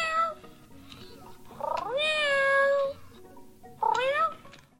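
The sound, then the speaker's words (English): A cat meows loudly and insistently several times: a short call, then a long drawn-out wail, then another rising meow, with no talking. “More about that cat later.”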